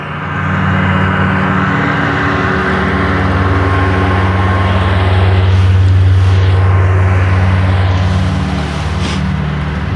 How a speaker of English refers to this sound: Big riding lawnmower.